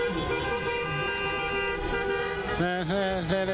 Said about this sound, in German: Also wer es schafft, anhand der Frequenz die verschiedenen Automodelle zu erkennen, die hier hupen, der gewinnt was. Oder die.